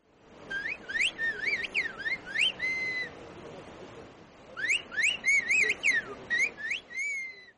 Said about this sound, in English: A whistled language is a highly developed method of communication. People use whistling sounds in place of words. The language was created as a way to communicate across great distances in difficult mountain conditions.